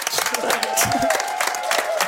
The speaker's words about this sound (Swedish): Men hörni, det är en liten applåd från kollegorna. Ja, eller?